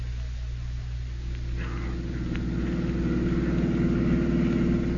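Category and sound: vehicle, car engine running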